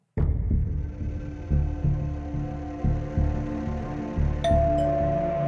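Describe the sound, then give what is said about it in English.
A front-door doorbell chime rings out sharply late at night, then its tones linger over a deep, throbbing drone that pulses steadily for several seconds; a higher tone enters briefly near the end. No one speaks. “Twenty-seven-year-old Linda Edelman was just about to go to bed when she heard the doorbell ring”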